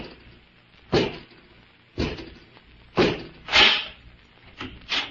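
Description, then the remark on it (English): A door being opened by Robot 2, a mechanical man servant, with a run of heavy mechanical clunks, five solid thuds spaced about a second apart, fairly loud, with no voices. “Robot 2, open the door.”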